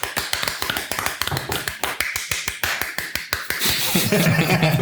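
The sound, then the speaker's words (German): A short burst of applause from a few people: quick, steady hand claps at a brisk rhythm, fairly loud, growing denser and more blended toward the end with a faint voice underneath. “Oh, dafür einen Applaus für uns selbst.”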